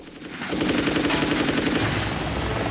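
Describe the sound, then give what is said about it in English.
Rapid, sustained machine-gun fire from a security helicopter shooting at another helicopter as it rises, bursts rattling continuously over a loud, throbbing rotor roar that fills the whole stretch; no voices are heard. “The boss's chopper rises and is fired at by the security chopper.”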